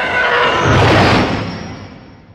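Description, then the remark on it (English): A Star Wars TIE Fighter enemy spaceship roar, made from a car passing a microphone on wet pavement layered with elephant growls: a loud, harsh, screeching whoosh with a shrill howling edge that swells for about a second, then slowly fades away. No one speaks. “The TIE Fighters are one of my favorite sounds in Star Wars.”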